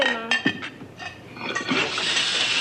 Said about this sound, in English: Okay, Mom. Oh, mercy, the water is on. Hey, James! James, the water's running!